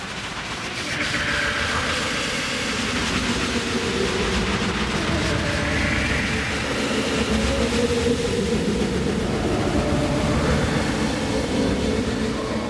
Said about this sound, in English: The train is now departing Beta Station 2 from the WellDroid Remix platform to start our sonic adventure.